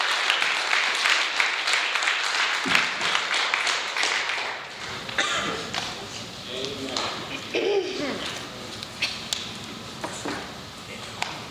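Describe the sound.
An audience breaks into applause, many hands clapping in a dense, steady patter that stays fairly loud throughout, with a few scattered voices and cheers mixed in near the end.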